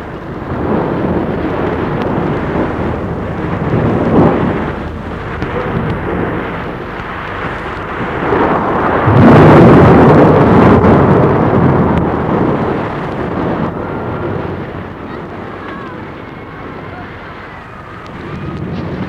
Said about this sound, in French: les éclairs, les tonnerres, terribles. Les cheminées tombent, les antennes de télévision aussi.